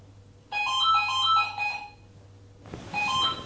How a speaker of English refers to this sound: Mom, stay here. Are you going to get the phone?